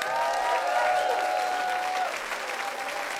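Steady applause from an audience after a band plays a tune, a dense wash of clapping that holds fairly level for about three seconds, with some whistling tones riding over it before it eases slightly.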